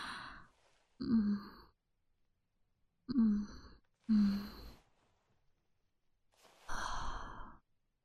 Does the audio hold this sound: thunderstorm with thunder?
no